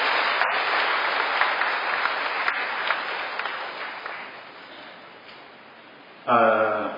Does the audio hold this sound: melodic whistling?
no